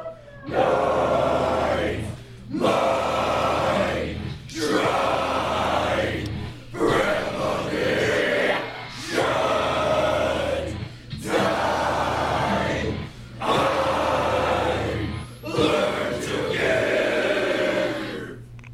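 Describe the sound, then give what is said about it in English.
A metal choir in Vancouver practices a song for a Car Free Day performance, belting harsh, growled extreme vocals in loud, sustained bursts, roughly seven phrases broken by brief pauses, over a steady low droning hum. “So, that is the metal choir, and I was able to speak with some of the choir's participants.”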